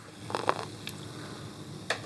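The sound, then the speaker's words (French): Beer fizzing and foaming in a glass during a beer tasting at La Brasse on rue des Pyrénées: a handful of soft, crisp crackles and pops at irregular moments over a quiet, steady hush, with no voices. “Ça mousse. Oh, ce bruit. C'est pétillant.”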